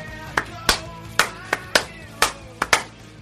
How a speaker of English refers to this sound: What about a slow clap?